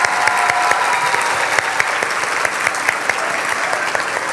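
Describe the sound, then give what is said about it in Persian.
A crowd applauds steadily, many hands clapping in a dense, continuous patter with a few sharper individual claps poking through, holding at an even loudness throughout. “و این هدایا قرار جای خوب بره، این هدایا قرار کلی انرژی خوب همراهش باشه که این انرژی رو شما به ما میدین، مخصوصا با دست زدنتون.”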